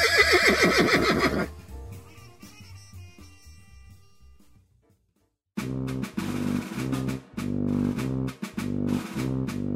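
A loud horse whinny rings out for about a second and a half, trails off into fading tones and a brief silence, then upbeat rhythmic music begins.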